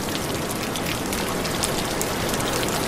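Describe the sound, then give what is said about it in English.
A steady, dense rush of a natural rain shower falling on birds and washing sea salt from their feathers, a constant hissing patter with no letup or change in loudness. There are no voices. “This natural shower washes off the sea salt that penetrates their feathers.”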